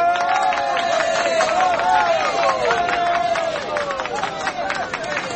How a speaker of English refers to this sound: And all of them shouted and cheered as the occupants of the lifeboat were hauled aboard.